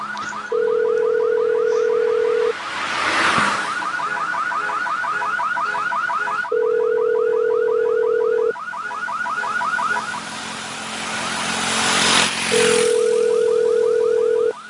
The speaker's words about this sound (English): No one gives a shit about a car alarm anymore.